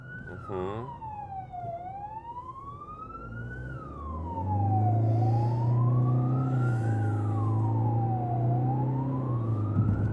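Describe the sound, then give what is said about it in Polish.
An ambulance siren wails steadily, rising and falling in slow sweeps, loud, over the low rumble of the vehicle's engine as it drives with its signal switched on to reach injured people. “Staram się po prostu dojeżdżać bezpiecznie, by nie zagrażać innym uczestnikom ruchu drogowego, ale przede wszystkim, żeby dojechać do poszkodowanych. Włączony sygnał.”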